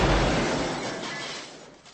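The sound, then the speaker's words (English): Window glass smashes in one loud, crashing burst, then the shattering noise tapers off over about two seconds as the fragments settle. No voices are heard. “Now that was just an innocent window, and you saw what I did to that.”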